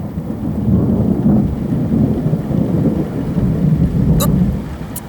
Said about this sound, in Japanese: 大丈夫ですか？苦手なんですか、雷。まだ止みそうにありませんし。